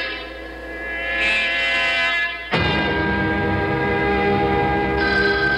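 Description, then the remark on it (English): A telephone rings loudly and continuously with an incoming call, a sustained metallic bell tone that shifts abruptly partway through and keeps going with no one speaking. “That's a call. Kip! Now, just be calm, Rita. Answer the phone.”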